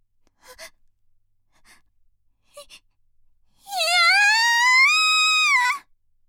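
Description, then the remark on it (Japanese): A woman gives a few short, quiet gasping breaths, then lets out one loud, long, high-pitched scream that rises in pitch and holds steady for about two seconds before breaking off, echoing through an auction hall. “私の叫び声がオークション会場に響き渡ります。”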